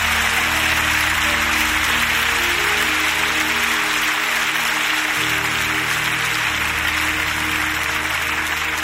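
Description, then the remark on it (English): A large crowd claps and applauds steadily for several seconds to give praise to God, a dense, sustained wash of hand claps with a low musical hum faintly underneath. “Everybody who believes He's worthy, clap your hands and give Him praise.”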